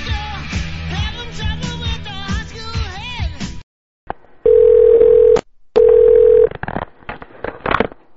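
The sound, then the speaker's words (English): After a short pause, a phone line gives two long, steady ringing tones with a gap between them, as a call rings before going to voicemail. They are loud, with faint line noise and clicks around them. “Phone wasn't working.”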